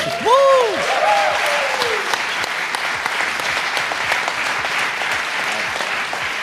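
An audience applauds steadily, a dense and even wash of many hands clapping that holds for several seconds, with a couple of brief swooping whistle-like tones near the start.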